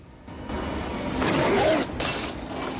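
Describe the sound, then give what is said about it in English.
The glass of a framed photo smashes and shatters with a loud, bright crash as a man smashes it while pacing up the stairs, followed by a second burst of breaking and scattering shards. No voices. “George steps into the hallway and paces up the stairs behind them, grimacing and smashing a framed photo along the way.”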